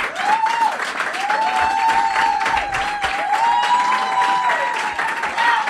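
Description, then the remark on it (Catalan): A crowd applauds with dense, steady clapping that holds at full volume for several seconds, with a few cheering or whistling tones rising above the hands. “Sí, ja, no pot ser que cada vegada t'aplaudeixin d'aquesta manera.”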